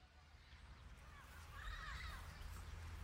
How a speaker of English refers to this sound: We're watching the parrots come in to roost for the night.